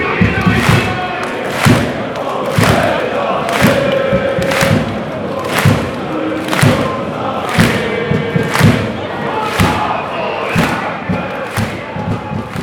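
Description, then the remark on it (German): Football away fans chant in the away section of a stadium on a Friday evening, 9 degrees and raining, a dense roar of many voices punctuated by regular loud thumps, roughly one per second, like rhythmic drumbeats or claps driving the chant. “Ja, und die Stimmung im Gästeblock ist gut und lässt sich auf jeden Fall hören.”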